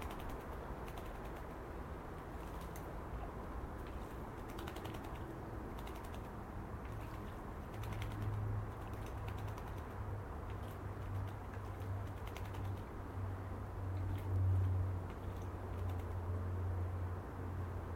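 Quick, fluttery splashing of a female blackbird bathing, a steady busy patter of little water flicks, with a low hum underneath and no voices.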